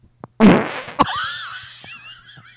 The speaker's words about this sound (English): It's been about a half hour since I farted. Wow.